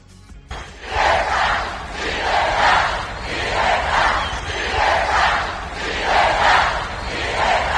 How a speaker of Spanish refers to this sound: Eran los gritos de libertad de esa multitud.